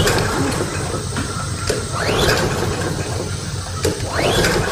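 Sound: lawnmower engine being pull-started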